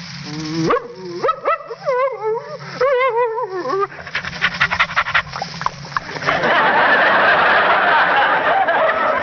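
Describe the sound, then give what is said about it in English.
A person imitates a friendly dog: eager whiny yips and whimpers first, then quick breathy panting that grows into loud, steady huffing to the end. “in a script, I may be called upon to be a friendly dog like this.”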